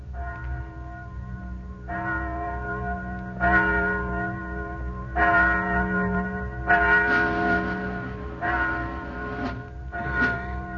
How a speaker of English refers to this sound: Listen. Do you hear something? Just a bell. Must be 11 o'clock. Yes. Just a bell. Just a bell.